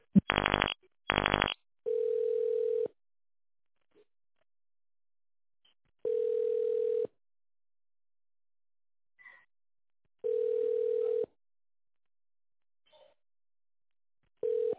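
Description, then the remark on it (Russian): Two quick bursts of keypad tones as an extension is dialed in tone mode on a call to the company Grom Kartridzh, followed by a steady, mid-pitched ringback tone that sounds for about a second and repeats every few seconds. No voices. “Если вы знаете внутренний номер абонента, наберите его в тоновом режиме.”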